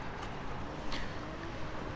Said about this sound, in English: how do I put this? Soothing, nice, complimentary. I think that the cars can sound like waves of the ocean with the right mindset.